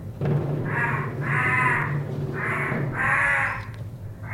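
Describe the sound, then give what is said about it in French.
Four harsh crow caws in an uneven sequence, each a coarse, drawn-out call, from crows flying in the sky above the Montfaucon gibbet, heard over a steady low rumble of background noise. “Au-dessus de tout cela, dans le ciel, un vol perpétuel de corbeaux et d'oiseaux de proie.”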